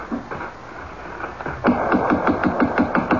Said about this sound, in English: The house is closed. Shades are drawn. Well, knock.